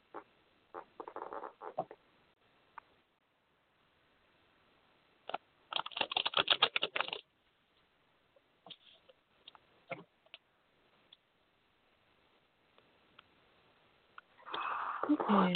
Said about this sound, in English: Okay. 1 second. I have to shuffle the cards real quick. Okay.